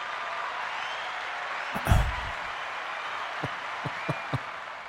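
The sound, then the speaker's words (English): Steady wash of applause, a dense hiss of many hands clapping at moderate loudness, with a louder thump partway through and a few sharper claps standing out near the end. No one speaks. “Thanks for the applause, everybody.”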